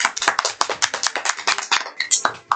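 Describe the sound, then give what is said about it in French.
A scattered round of hand clapping from a few people, applauding their team after it scores points in a game, quick uneven claps overlapping for a couple of seconds with voices mixed in. “Tu peux applaudir un peu.”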